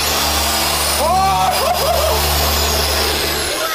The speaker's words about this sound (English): Oh my gosh, what is this? I think I got the world's biggest drill.